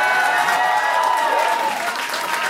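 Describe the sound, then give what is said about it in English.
A large live audience breaks into loud, sustained applause, a dense wash of clapping with a few shouts and whoops mixed in, lasting the whole few seconds. “Somebody yelled Jake's virginity, and then the crowd erupted in some sort of applause.”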